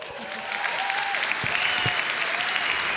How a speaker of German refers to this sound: Applaus für die Buben